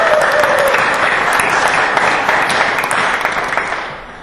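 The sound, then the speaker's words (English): A large indoor crowd claps steadily and loudly for several seconds for the Vacation Bible School volunteers, a dense wash of applause that tapers slightly toward the end. “Everybody give them a big round of applause.”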